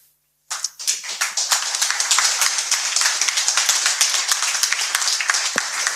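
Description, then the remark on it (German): Sustained applause from an audience: many overlapping claps rise quickly after a brief silence and continue densely and loudly throughout, with no voices standing out. “Also der Applaus war jetzt nicht für das Ende der Geschichte, aber also.”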